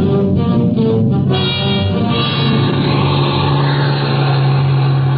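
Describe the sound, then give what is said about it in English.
A bus engine revs loudly and steadily, its deep drone building as the bus pulls away onto snow-covered mountain roads, sustained with no talking. “In no time at all, we had the bus clear and headed for civilization.”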